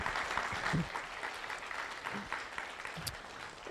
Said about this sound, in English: And so give the Lord a hand clap one last time.